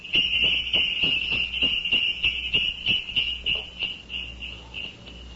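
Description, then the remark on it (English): Jingle bells sound effect representing winter, shaken in a steady, quick rhythm, a bright high metallic ringing that holds throughout with regular jangling pulses, fairly loud and with no voices. “Jingle bells and the good old winter time.”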